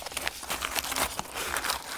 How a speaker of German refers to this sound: Also ich habe vor mir Knabbergebäck und Nutella und jetzt schraube ich das Nutella-Glas auf. Und das Knabbergebäck mache ich auf.